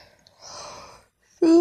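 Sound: yawn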